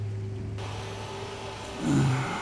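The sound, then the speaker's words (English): Steady crackling static from a crystal radio as its cat whisker is stroked across the crystal, hissing across the band over a low droning hum, swelling briefly louder with a warbling tone near the end. No one speaks. “Just stroke the cat whisker across Tiffany Blue. Yeah, static.”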